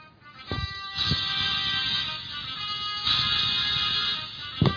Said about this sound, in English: I'm going to play you a couple of songs that I've got here in my phone, and I know it's an antiquated phone, but it does what it needs to do. I have tunes and ringtones in here, depending on who calls, just a few of them. So if this one plays...